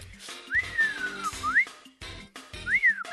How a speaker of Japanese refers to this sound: 口 笛、うん、口笛は俺苦手だけど、口笛やってみる。 口笛はこうですかね。